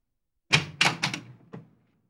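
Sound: door opening and shutting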